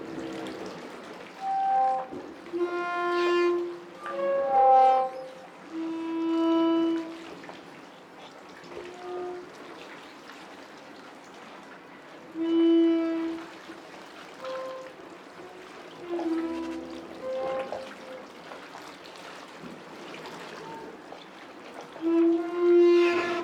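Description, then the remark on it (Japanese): Long, groaning creaks from a pier jutting out into the harbor at the boat landing of Shiogama Port, rubbed by the waves, rising and falling in drawn-out tonal moans like a bowed string instrument, over a steady wash of water. “港に突き出た桟橋が波で擦れる音ですが、私には大きな弦楽器を練習している音に聞こえます。”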